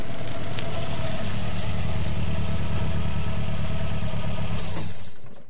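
A car engine idles with a steady low rumble for several seconds on a dark country dirt road, then is switched off, the sound dying away into near silence at the very end.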